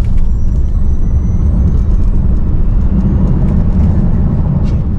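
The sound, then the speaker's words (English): A Plaid car carrying well over 500 pounds of people and gear accelerates hard at full throttle past 60, a loud, dense low roar that stays steady for the whole stretch, with no voices over it. “It pulls more G from the draggy when you just pin it at 60.”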